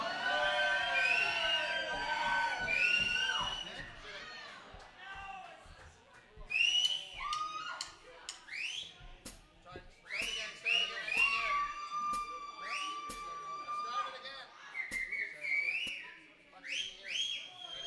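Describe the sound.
A crowd cheers loudly, with shrill whistles rising and sliding in pitch over a dense wash of shouting voices, swelling in bursts throughout.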